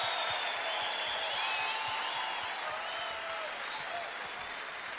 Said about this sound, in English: The number one in the world, just give a big round of applause to Mr. Danny Ray.